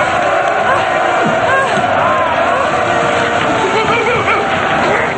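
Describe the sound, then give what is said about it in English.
An angry mob in a film scene shouts and clamors continuously, loud, with many overlapping yells forming a steady roar that never lets up, as it surrounds characters backed against a wall before parting for Imhotep. “Jonathan, the Magi leader, and the curator are backed into a wall and surrounded by the mob.”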